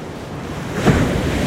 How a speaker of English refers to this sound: That sounded like a thunderclap. That got my attention. The waves are big today, maybe 6 to 8 feet high, some taller. Never predictable. The white breakers were rushing to the shore. And the foam ran up the sand, and then back as far as we could see